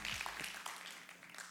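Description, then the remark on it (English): A church audience applauds with a dense patter of many hands clapping, steady, filling the short moment without any talking. “Glad you're clapping.”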